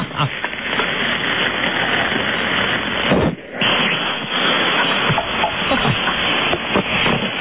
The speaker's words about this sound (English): You're listening to a phone in a frying pan. Yeah, now the heat's taking its toll.